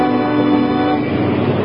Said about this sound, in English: And another cement truck.